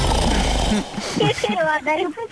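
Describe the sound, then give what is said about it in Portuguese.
A single loud, rough, rattling snore from a cousin who snores all night lasts under a second and then cuts off abruptly, followed by people talking. “Acabou de perder um ruído lá para casa. É o ronco do meu primo”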